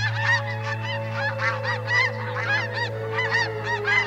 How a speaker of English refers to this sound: And of course, the birds are on the move too. They're like going places.